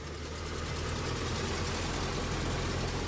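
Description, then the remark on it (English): A Ford Model T car engine runs steadily, a low, rumbling idle with a continuous throbbing texture and faint knocking, holding an even loudness throughout with no voices. “The Model T turns 100. Thanks, Henry. Now, let's try and drive this sucker, shall we?”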